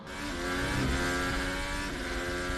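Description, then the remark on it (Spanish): A modern Formula 1 car engine drones loudly and steadily at high revs, its buzzing harmonic tone holding nearly constant pitch throughout, with no voices. “Y este el del nuevo.”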